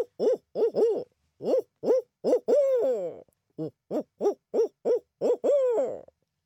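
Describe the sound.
A person's voice imitates a barred owl call, loud, live on a radio call-in show without a recording: two rhythmic series of hooting notes, each ending in a long, drawn-out descending hoot, with a brief pause between them.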